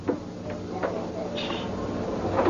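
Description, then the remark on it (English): A chair with a 10-year-old girl on it, doing her homework, scrapes and bumps backwards across a hard floor in several short, uneven pushes, with a brief squeak partway through, fairly quiet against a low hum. “You can see if the chair keeps sliding backwards.”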